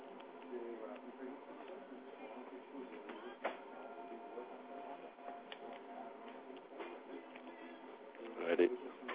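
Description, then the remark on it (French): A small printer whirs and clatters steadily with irregular ticking bursts, one louder clunk near the end, over a muffled background of indistinct voices. “On peut se connecter l'imprimante.”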